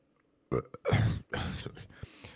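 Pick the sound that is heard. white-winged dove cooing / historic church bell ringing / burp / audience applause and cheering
burp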